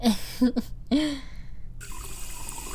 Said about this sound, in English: Alright, thirsty boy. One glass of my finest tap coming right up. Boom.